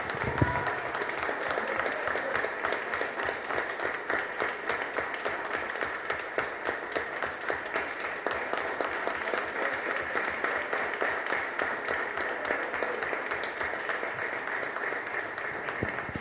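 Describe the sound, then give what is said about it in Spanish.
Sustained audience applause at the Museo Casa de la Memoria Indómita for Nora Cortiñas, cofounder of Madres de Plaza de Mayo: a dense crowd of hands clapping steadily at an even, moderately loud level for the whole stretch, with no speech over it. “Y les quiero pedir un aplauso enorme, enorme, enorme, enorme, enorme para doña Nora Cortiñas, cofundadora de Madres de Plaza de Mayo, línea fundadora, que está con nosotros.”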